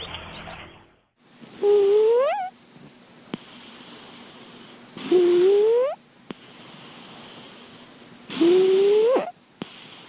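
A 6-year-old cat, curled up on a couch in a deep sleep, snoring: three loud, raspy breaths about three seconds apart, each ending in a rising whistly wheeze, with quiet hiss between them and no talking.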